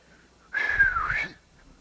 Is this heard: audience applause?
no